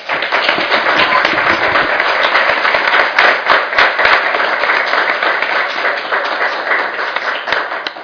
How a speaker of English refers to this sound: Great session. Let's give them another round of applause, everyone.